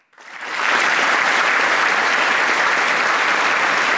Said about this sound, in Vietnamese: Một sự hoan nghênh nhiệt liệt, kèm theo một tràng pháo tay vang dội dường như không bao giờ kết thúc.